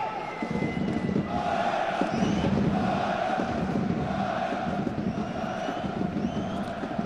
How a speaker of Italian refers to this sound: Rumoreggia il pubblico, non è convinto evidentemente di questa chiamata da parte del direttore di gara.